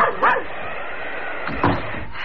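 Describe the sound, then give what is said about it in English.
A dog named Barney barks twice on a wild, snowy night, a pair of short, fairly loud woofs spaced over a second apart, over a steady, muffled background hiss with no talking. “Come then, my Barney dog.”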